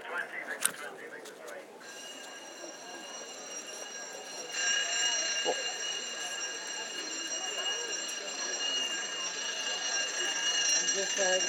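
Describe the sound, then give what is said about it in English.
A building fire alarm sounds a steady, shrill electronic tone that starts after a brief noisy moment, then grows louder and keeps ringing without a break over background noise. “The fire alarm has been activated.”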